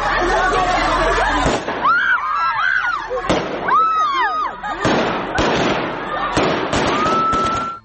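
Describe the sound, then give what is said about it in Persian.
Gunshots fired into the air by Taliban security forces crack out in several sharp, irregular bangs at a women's protest in Kabul, over a loud crowd of shouting, wailing voices, with constant noisy commotion throughout. “اعتراض شماری از زنان در کابل امروز با موترهای آبپاش و فایرهای هوایی نیروهای امنیتی طالبان مواجه شد.”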